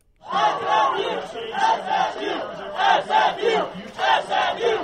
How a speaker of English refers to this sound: That's a sound 22 years in the making. SMU fans cheering the announcement that their men's basketball team is headed back to the NCAA tournament.